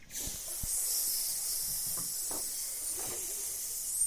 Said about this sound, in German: Ah, Schlangen! Schnell weg hier!